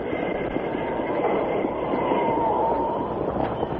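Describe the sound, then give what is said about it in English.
A steam train rumbles loudly and steadily, its wheels and carriages rattling in a continuous dense roar with faint metallic squeals as it comes to a stop, and no one speaking. “Stop the train.”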